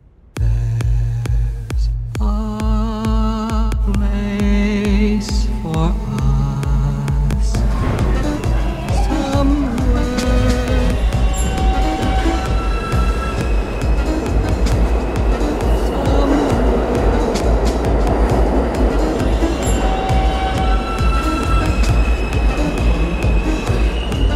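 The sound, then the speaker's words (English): A loud electric train traction motor whines up through a series of steady, rising musical tones, produced as the power is converted from an old system to a new, efficient motor, over a deep throbbing hum and rumbling rail noise, continuous without any voices. “the noise itself is created by something that is reconciling an old system of wave into a new motor to be efficient.”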